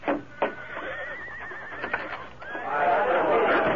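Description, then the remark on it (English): A horse standing in front of a cafe on the main street of Rock City whinnies with a high, quavering neigh, then lets out a second, louder and longer whinny against a busy background. “He noticed the stranger's horse in front of the cafe.”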